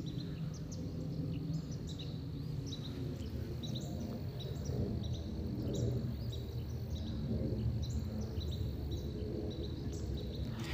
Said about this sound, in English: So I'm standing here, and as you can probably hear, I have a Carolina wren here that's talking an awful lot.